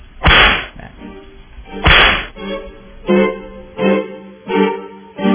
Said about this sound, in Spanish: No, se merecen de verdad los latigazos. Con todos latigazos.